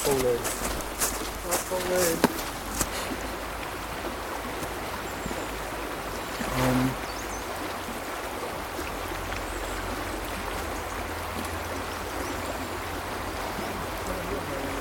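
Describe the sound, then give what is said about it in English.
Steady, continuous rush of flowing river water fills the scene at moderate level, with a few brief knocks and faint murmurs early on and a short louder patch midway. “Here we are by the river here. Let's get some nice ambiance.”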